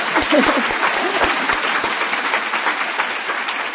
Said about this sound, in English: Let's clap for the Lord in that.